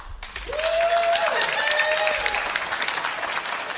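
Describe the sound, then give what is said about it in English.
A large audience, asked to show by applause how many are fans of America's team, breaks into steady, dense applause that lasts several seconds, mixed with scattered cheers and a sustained whistle rising over the clapping. “Just by applause, how many of you are fans of America's team?”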